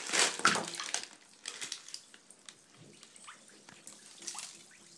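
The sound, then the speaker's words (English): A guava-scented bath bomb, just removed from its wrapping, splashes into the water of a tub with a brief loud plunk, followed by a steady, faint crackling fizz with scattered tiny pops and bubbling that continues on its own. “So I'm going to dump it in the water, and you'll hear it go.”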